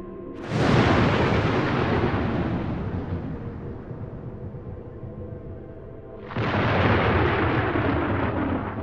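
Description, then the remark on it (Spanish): Two loud thunderclaps from a lightning strike, each a sudden sharp crack trailing into a long rolling rumble, the second arriving several seconds after the first. No voices. “Un inmenso relámpago con una luz cegadora se manifiesta delante de ti.”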